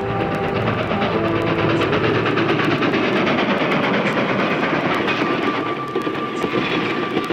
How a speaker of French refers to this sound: Innocently enough, on an eastbound train. It was in the early spring of 1903 to be exact. And the train was plowing through a heavy storm.